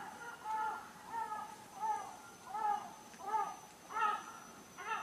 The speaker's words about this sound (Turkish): O saatte kuşların uyanışı ile ilgili çekim yapıyoruz. Şu an kuş sesleri yavaşça, yavaş yavaş artmakla birlikte henüz bir sessizlik olduğu söylenebilir.